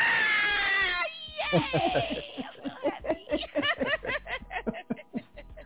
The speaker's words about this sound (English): Yay! Hey, y'all. Oh, sorry, listeners. I know that was like a shriek.